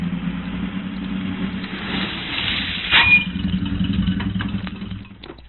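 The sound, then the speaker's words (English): An airplane engine runs steadily on a plane waiting on the London Road, a low, continuous droning hum with a brief swell in loudness partway through and no voices. “There's the plane.”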